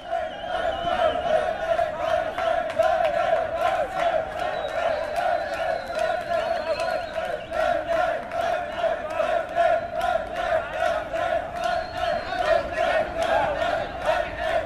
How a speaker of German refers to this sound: Da oben sind jetzt 30, 40 Leute, die der Lifeline-Crew hier einfach nur zujubeln. Stehen so 50 Meter entfernt in so einem Flüchtlingsheim, abgeschirmt, können nicht raus, aber jubeln.